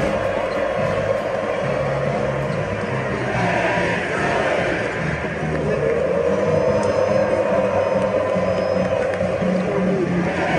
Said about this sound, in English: and led the crowd in a pig suey chant.